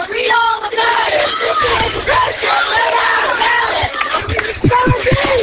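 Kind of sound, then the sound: crowd, crowd cheering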